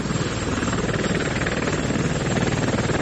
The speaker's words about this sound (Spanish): Vamos a echar un vistazo al tráfico. Vamos a conectar con … a bordo del helicóptero del Mundo Today para ver cómo están esas carreteras.